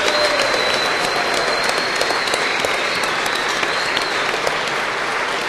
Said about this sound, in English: So big round of applause for ….